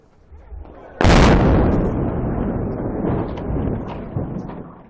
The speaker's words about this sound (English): As onlookers watched from the shore, the Black Hawk Bridge crashed down into the water below. The bridge was built in 1931 and connected Wisconsin to Iowa.